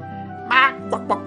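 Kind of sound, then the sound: bird, duck quacking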